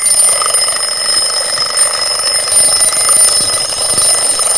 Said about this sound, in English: Now, the theme this morning is wake up. So I thought I'd just bless you with a little blast from Jemima's alarm clock.